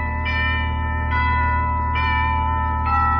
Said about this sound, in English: A half hour later, I was back out in Santa Monica. Fog was closing in over the house when I rang the bell.